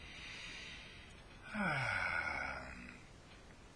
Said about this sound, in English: Well, first it would consist of a big deep breath and then letting it all out, letting it all out, and then breathing quietly and peacefully.